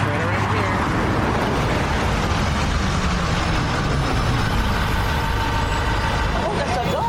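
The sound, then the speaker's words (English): In the trailer for the PBS documentary Unseen, a bus rumbles by, its heavy engine droning steadily and loudly throughout as it pulls up and idles, with indistinct voices murmuring underneath. “The bus is coming.”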